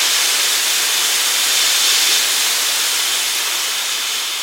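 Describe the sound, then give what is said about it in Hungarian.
A three-dimensional model of a steam engine hisses loudly and continuously, a steady high-pitched rush of venting steam that holds nearly even for several seconds with no voices. “Ez itt nem más, mint egy gőzgép háromdimenziós modellje.”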